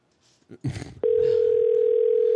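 A phone call ringing tone starts abruptly after a moment of muffled shuffling and a brief voice, then holds as a single loud, steady hum without breaks until the end.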